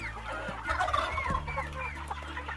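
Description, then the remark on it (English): Many chickens cluck and squawk together in a dense, overlapping chorus over a steady low mechanical hum, on a commercial chicken farm. “And then picture a commercial chicken or duck farm.”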